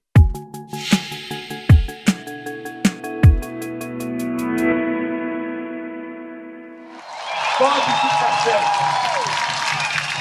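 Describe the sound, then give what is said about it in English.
A few sharp musical hits ring over a sustained chord, then a dense, loud crowd roar of cheering and shouting takes over for the last few seconds, as Brazil's former president Lula da Silva steps out of jail into the cheering crowd. “The scene last night in Brazil, as the country's former president, Lula da Silva, stepped out of jail and into a cheering crowd.”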